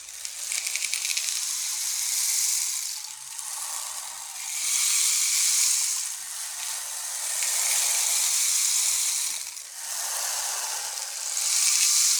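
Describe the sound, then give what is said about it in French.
Torrential rain pours down on a village in a dense, bright hiss that swells and eases in slow waves every few seconds, steady and loud with no voices. “Une pluie diluvienne tombait sur le village.”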